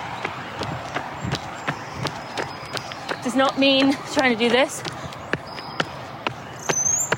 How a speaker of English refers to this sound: So you hear my footsteps now, right?